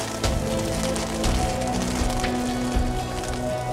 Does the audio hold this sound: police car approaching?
no